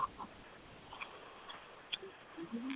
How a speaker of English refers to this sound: It sounds like a chicken in the back of your house. It might be.